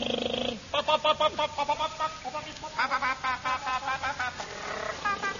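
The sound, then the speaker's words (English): A voice imitates a car engine starting: a rapid, rhythmic series of buzzing, throaty vocal pulses that sputter on and off in bursts before revving up and trailing away. “Now bend down and I'll start you up.”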